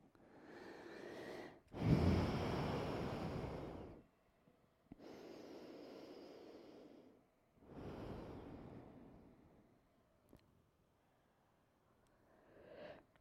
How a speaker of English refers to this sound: When was the last time you were in a room of 15 people so quiet and breathing well and doing something really hard all at the same time? This is amazing, you guys.